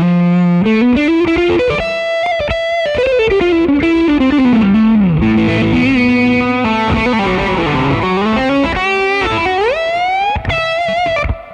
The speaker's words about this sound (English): It's great to see a rat. Thank you for saying that, because that's my original first pedal that I got when I was 12, and I still use it for my distortion. And I have the tone rolled all the way off, and I just love the sound of it.